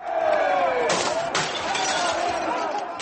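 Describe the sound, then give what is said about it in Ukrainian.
Two sharp crashes of breaking glass burst out close together as protesters smash windows of a Royal Bank of Scotland building in the City of London, over a steady backdrop of voices and crowd noise, with a lingering rattle of shards after each impact. “Протестуючі розбили вікна в будинку та вступили в сутички з поліцією.”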